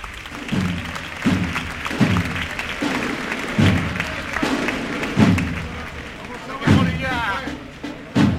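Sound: applause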